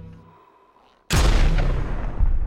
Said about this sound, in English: Multiple gunshots ring out in the kitchen.